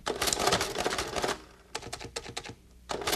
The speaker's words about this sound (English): Do you know what this is? Do you know the sound? It's an adding machine.